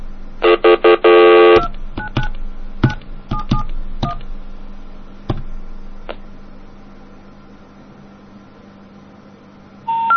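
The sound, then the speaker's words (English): A quick burst of touch-tone dialing as a telephone call is placed to a number almost the same as that of a neighbouring phone, then a series of separate electronic tone beeps spaced out over several seconds, a quiet stretch, and another tone right at the end. No one speaks. “Now there's a phone right next to it with a number almost the same. Let's call it.”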